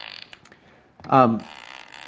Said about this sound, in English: And so that when I'm recording HPR, I can totally add in my, you know, my sounds, or when I'm making my own podcast, or if I'm just really amusing my children, I can play these fart noises, and it's just great stuff.